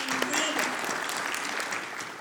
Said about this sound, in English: And I'd like to hear a round of applause